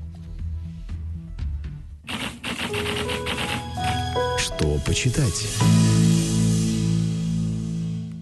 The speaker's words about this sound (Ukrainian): И вы уже услышали традиционный сигнал нашей традиционной рубрики «Что почитать?».